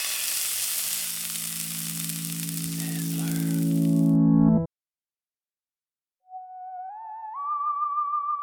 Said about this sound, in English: can we get a sizzle sound cue?